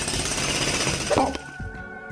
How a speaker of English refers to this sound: The sound of what sounded like a drill got closer and closer and closer until...